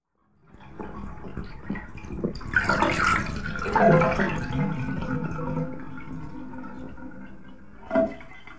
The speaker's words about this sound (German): Rolf hatte das Wasser aus der Wanne gelassen.